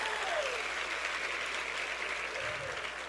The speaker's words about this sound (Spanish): ¿Alguien puede celebrar lo que Dios va a hacer? Dese lo mejor ese aplauso.